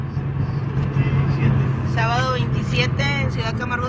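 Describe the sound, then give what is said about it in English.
Steady low engine and road rumble inside a car driving along a highway on a sunny day through a dry, dusty landscape, filmed on a phone, with a woman's voice starting to talk over the drone partway through. “It opens looking out the windshield of a car on a sunny day.”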